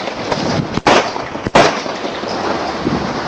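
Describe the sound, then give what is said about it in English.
Two or three sharp, loud gunshots crack out in quick succession over a harsh, noisy background, each blast abrupt, fired by a South Carolina state trooper at an unarmed driver at a petrol station. “This shocking video shows the moment a South Carolina state trooper fired gunshots at an unarmed driver at a petrol station.”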